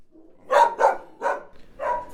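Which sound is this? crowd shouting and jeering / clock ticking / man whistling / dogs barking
dogs barking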